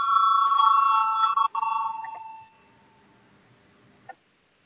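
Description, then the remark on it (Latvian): A loud electric bell rings steadily for about two and a half seconds, briefly interrupted once, then cuts off into quiet with a single faint click near the end; it is rung in a parliamentary session to call a vote on a deputy's proposal. “Lūdzu, zvanu, balsosim par 34. deputāta Lucāna priekšlikumu.”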